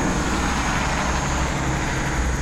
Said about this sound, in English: And it's not trucks, it's all cars. It's all local cars.